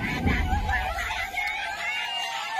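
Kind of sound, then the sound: crowd, crying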